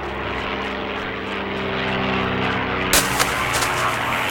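A propeller airplane drones steadily overhead above a pine coppice, its engine a loud continuous hum with strong low tones, swelling brighter and louder near the end as it passes.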